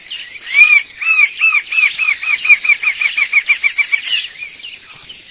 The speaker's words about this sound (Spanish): Lo están invadiendo, ¿qué es esto? Hay una bandada de pájaros acá en el estudio.